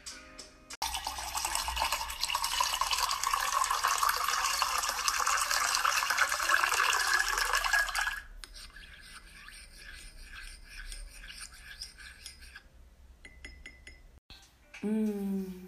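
Black, unsweetened coffee, drunk hot with a drizzle of coconut oil, pours in a steady, loud hissing stream for about seven seconds, its pitch rising as the cup fills, followed by soft clinks and light taps, then a brief voice at the end.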